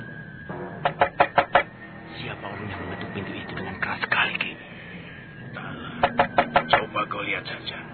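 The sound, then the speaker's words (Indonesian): Someone knocks very loudly on a wooden hut door in two rapid bursts of about four or five sharp raps each, separated by a few seconds of muffled background activity. “Namun, ketika keduanya tengah asik bercakap-cakap, tiba-tiba pintu pondok itu diketuk seseorang dengan keras sekali.”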